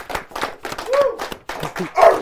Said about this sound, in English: Y'all round of applause. Yeah. Yep. Let's make her cry. Keep clapping.